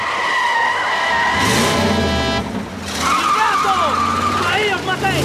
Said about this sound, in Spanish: El coche frena y gira.